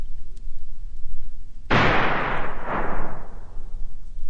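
gunshot

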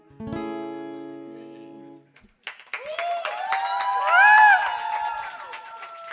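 audience applause and cheering

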